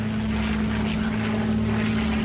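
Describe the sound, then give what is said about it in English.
A damaged propeller airplane drones steadily in flight, its engine holding a constant low hum with a broad rushing roar over it, loud and unbroken throughout. “Injured and with his aircraft damaged,”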